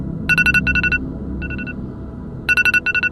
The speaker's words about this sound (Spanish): Revisé el teléfono para ver cuánto faltaba para que sonara la alarma. 3 segundos.